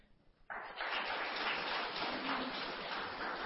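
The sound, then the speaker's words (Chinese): A crowd bursts into sustained applause, a dense, steady clatter of many hands clapping that starts abruptly and continues at an even, fairly loud level without voices. “我们给他掌声，这个姐夫啊。”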